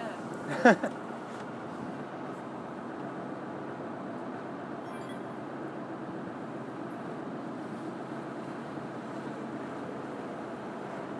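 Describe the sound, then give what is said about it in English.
A water taxi's engine drones steadily during a ride in the middle of Venice, with a constant rush of wind and water throughout, broken only by a brief sharp knock near the start; no clear talking stands out. “But even if it's the only water taxi we take, it's nice to have done it.”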